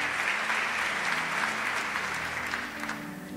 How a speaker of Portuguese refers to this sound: Por que não bata suas palmas para o Senhor? Uau. Aleluia. Amém.